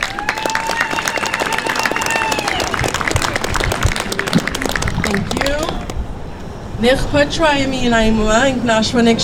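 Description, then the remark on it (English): A crowd at a gathering before a march to a derailment site bursts into dense, sustained applause with scattered whoops and cheers, welcoming a Warm Springs Tribal Council member; the clapping thins out after several seconds as a voice rises over the dwindling claps. “So please give up a big round of applause.”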